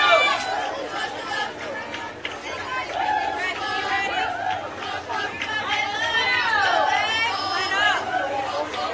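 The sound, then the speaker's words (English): Steady crowd chatter at a state tournament baseball game, a dense babble of many voices with occasional higher shouts and calls rising above it, continuous and moderately loud throughout. “It's a good crowd here for both teams.”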